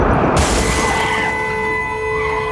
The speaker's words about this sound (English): Then a split second later, a massive explosion rips through the mine, shattering the glass in the truck's rear window and knocking the wind out of Franklin.